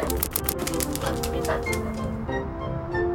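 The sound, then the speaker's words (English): Tammy, a small yellow puppy in a phonics story set in the city, yips and barks in quick bursts over about three seconds, with sharp clicking noises near the start and a steady background hum. “I'm Tammy, a yellow puppy in the city.”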